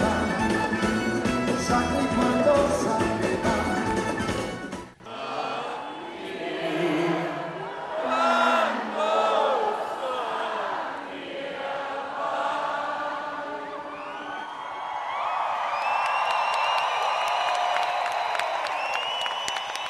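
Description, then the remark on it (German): A brief burst of loud band music cuts off, giving way to a large concert crowd cheering, shouting and clapping, a sustained, roaring wall of voices and applause that carries on to the end, at a Schlager singer's concert with a stage show of fire rockets and confetti. “Die spektakuläre Bühnenshow mit Feuerraketen und Konfetti versetzte das Publikum in Ekstase.”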